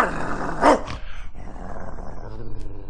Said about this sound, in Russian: Вот значит, он и жильцов в подъезде облаивает так же, как, допустим, лисиц.